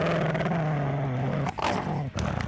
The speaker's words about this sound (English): You hear a dog bark? Yeah, but I don't see what... Oh, no! Hollow Hound!